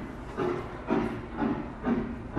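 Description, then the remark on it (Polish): Train wheels clatter over rail joints in a steady, repeating rhythm, about two beats per second, with a constant rumbling hiss underneath, heard at the weekend opening of a village media library in a former railway station building on a closed line in Straszyn, Poland. Moderately loud, with no voices. “Mieści się w budynku dawnego dworca kolejowego przy zamkniętej linii kolejowej, dlatego wchodząc na otwarcie, które odbyło się w weekend, można było usłyszeć stukot kół pociągu.”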